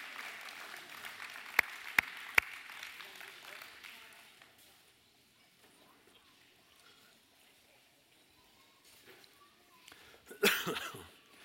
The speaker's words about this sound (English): Okay, youth and kids. Big round of applause.